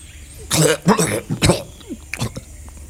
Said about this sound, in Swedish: Mannen hostar upp någonting som inte längre ser ut som blod. Någon slags hinna.